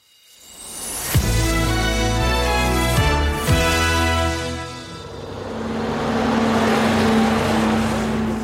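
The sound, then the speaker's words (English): A gritting lorry passes, its loud diesel engine droning with a couple of abrupt gear changes, then giving way to a rougher, rushing rumble of tyres and road noise, at 6:05 on a June morning in Howick, Scotland, during the Howick Common Riding. “It's 6:05 on a June morning, and that's the gritting lorry just gone past.”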